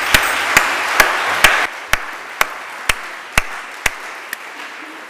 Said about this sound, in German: Vielen Dank. Ich denke, da können wir auch mal einen Applaus geben.